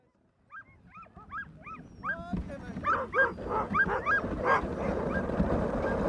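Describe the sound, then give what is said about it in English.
A dog sled team running across a vast snowy tundra called the Barrens, beyond the tree line, yelps and whimpers in rapid, overlapping bursts, high whines rising into excited barks as a rushing background noise swells in partway through. “are running a dog sled team across this vast snowy tundra called the Barrens”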